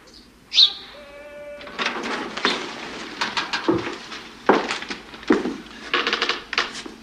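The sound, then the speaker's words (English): A small bird gives a sharp chirp, followed by irregular bursts of fluttering wingbeats as it flies about a large empty room outside a general's office, moderately loud. “As he turns his head to listen in at the door, a small bird flies around the room.”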